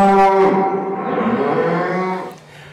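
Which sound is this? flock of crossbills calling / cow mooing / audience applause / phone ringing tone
cow mooing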